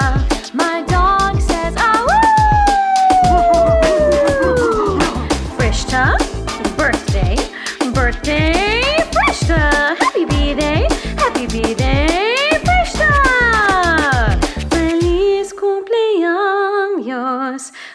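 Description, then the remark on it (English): A pet dog howls loudly, its long wavering cries sliding up and down in pitch, broken up by quick, sharp yips for nearly the whole stretch before cutting off. “My dog says, to you, Frishta.”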